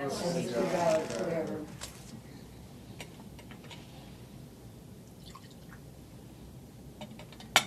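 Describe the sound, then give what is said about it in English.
A voice murmurs briefly at the start, then in near silence a few faint, scattered drips and light liquid ticks follow as a small splash of water is poured into wine in a chalice, ending with one sharper click. “For the mystery of this water and this wine, may we come to share in the divinity of Christ, who humbled Himself to share in our humanity.”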